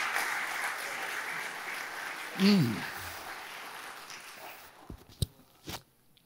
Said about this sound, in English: Give him a clap offering this morning. He is so worthy.